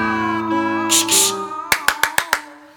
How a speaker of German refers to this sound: Sie klatscht laut in die Hände, macht dem Gesang ein Ende.